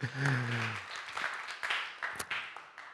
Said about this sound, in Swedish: En applåd.